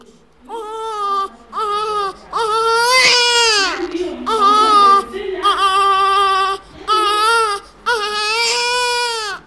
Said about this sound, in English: A newborn baby cries to be fed at Kericho District Hospital. Hospital isn't the clean clinical whiteness you imagine if you live in North America or Western Europe. The baby lies in a tiny cot next to a wall which hasn't seen a coat of paint